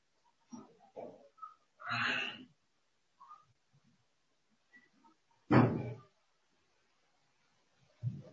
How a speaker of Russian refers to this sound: Я извиняюсь, кто-то ко мне стучит.